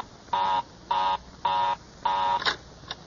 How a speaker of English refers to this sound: Well, of all the luck, Mary's line is always busy.